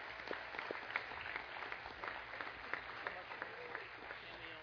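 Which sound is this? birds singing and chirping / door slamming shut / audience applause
audience applause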